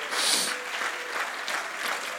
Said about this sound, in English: Come on, can we clap those hands unto the Lord, all you people?